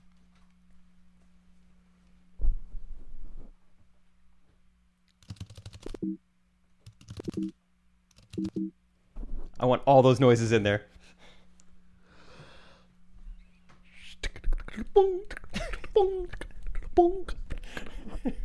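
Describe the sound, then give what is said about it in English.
A voice mimics keyboard typing with a run of quick, crisp mouth clicks and taps in irregular bursts, with breathy vocal sounds mixed in and a short spoken line near the end. “Pretty good typing sounds.”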